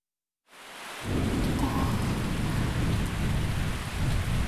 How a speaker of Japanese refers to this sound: 雨はどう？ さっきより強くなってる。風が出てきてる。 すごいな、ほとんど嵐だ。今夜はずっとこんな感じなのかな。